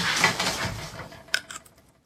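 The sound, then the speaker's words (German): A crisp bite into a cucumber used as a sound effect: a wet, crunchy tearing that fades, followed by two or three sharp little snaps of chewing. No one speaks. “Ja, jedenfalls so solche Sachen, die in die Gurke reinbeißen, das hatten wir öfter zu hören bekommen.”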